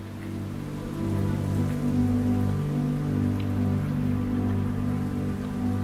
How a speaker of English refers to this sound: Rain and snow fall for the first time onto Earth's rocky surface, hissing and spitting as they land on the still cooling crust.